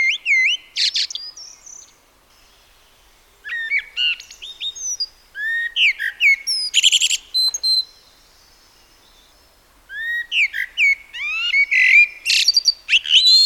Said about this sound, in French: Et oui, vous l'avez reconnu, c'est bien le merle noir, l'oiseau qui est entièrement noir à l'exception de son bec et d'un cercle fin autour de l'œil qui sont jaune foncé orangé.